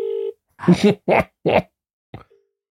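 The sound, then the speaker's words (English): A steady electronic ringing tone from an outgoing phone call sounds briefly at the start and faintly again at the end, with a few loud spoken words in between and no one answering. “Oliver, pick up the phone, man.”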